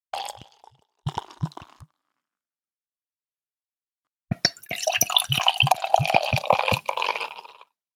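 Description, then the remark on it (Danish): Light beer being poured into a glass: two short gurgling spurts, a pause, then a longer, steady glugging pour with bubbly fizz that fades out. “så ser det jo rigtig, rigtig dejligt ud, når man hælder Simons øl i glasset”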